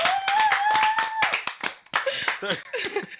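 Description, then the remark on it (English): An audience applauds with brisk, uneven clapping that runs steadily for about three seconds, mixed with a few cheering voices and a faint high whoop near the start. “Let's give it a round of applause, everybody.”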